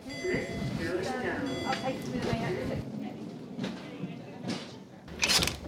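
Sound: doors opening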